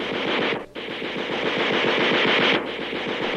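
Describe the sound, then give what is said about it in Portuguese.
Rapid, sustained automatic gunfire rattles in a dense, loud burst, with a brief break after half a second before the volley resumes and continues steadily to the end; the shooting is aimed at a 1934 car. “É ele. Atire.”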